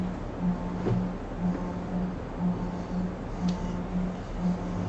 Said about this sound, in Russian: Нет, машина задним ходом ставится.